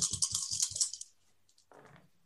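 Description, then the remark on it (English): A quick rattle of three dice tumbling across a hard surface, several sharp clacks in rapid succession, then a few faint ticks as they settle, with no one talking. “Well, I'm rolling 3 dice, all of which are hunger.”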